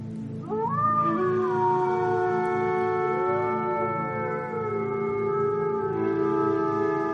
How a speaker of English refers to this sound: Have you ever heard the distant cry of a pack of wolves, howling under a bright full moon shining in a clear night sky? Well, if you're locked inside a mountain cabin curled up under a blanket, the howling can be beautiful and mesmerizing.